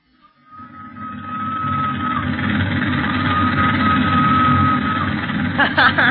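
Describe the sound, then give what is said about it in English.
A steam train engine of the train from Matadi to Leopoldville rumbles and hisses steadily while a thin, high, reedy whistle like a peanut vendor's holds one long note, followed by a few rhythmic chuffs at the end. “If that doesn't sound like a peanut whistle, nothing ever did.”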